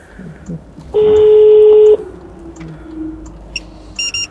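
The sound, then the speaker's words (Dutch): A phone line gives one steady, fairly loud ringing tone lasting about a second, followed later by a few short electronic dialing beeps, all over a low background rumble, as a call is placed to a traffic control centre. “Ik ga heel even de centrale bellen, dat zij ook weten wat ik hier gedaan heb.”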